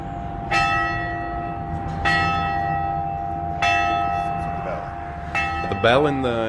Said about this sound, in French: Une dernière chose à propos de la cloche. Elle est plus ancienne encore que l'église. Il y a une ville qui est à 30 km de Vegas qui s'appelle Saint-Thomas. Et cette cloche était à l'origine dans l'église de ce village.